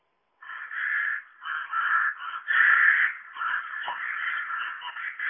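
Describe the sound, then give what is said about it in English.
A rook, a bird of the crow family, caws repeatedly in harsh, grating bursts, the rough calls running almost continuously with brief gaps between them, loud with no other sounds around. “That's a rook.”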